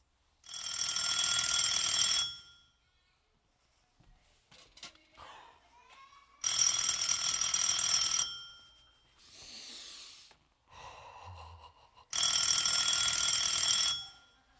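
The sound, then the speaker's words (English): A phone built into a shoe rings loudly in three bright, two-second bursts spaced evenly apart, with soft shuffling and a brief muffled tone in the quiet gaps between rings. “There is a phone built into that shoe.”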